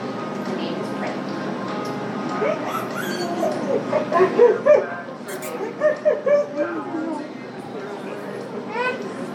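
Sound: puppy yipping and whimpering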